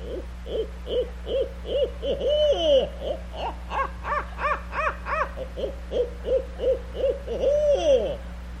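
A barn owl, also called the white owl or Monkey Face, calls in a long, rhythmic series of short hooting notes, clear, with a few drawn-out inflected calls and a brief burst of higher excited notes midway over a low steady hum.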